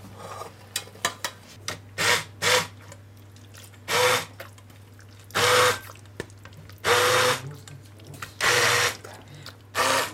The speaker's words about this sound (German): So, jetzt haben wir da unseren Pürierstab.